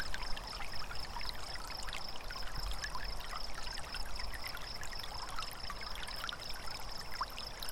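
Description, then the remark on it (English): A slow, oozing liquid sound, a steady wet trickle with soft bubbling and dribbling textures, continuous, with no voices. “Set that function to the desired number of healing. One is ooze.”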